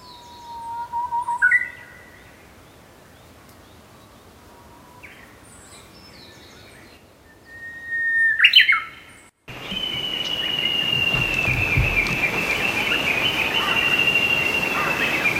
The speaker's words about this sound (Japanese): さえずり。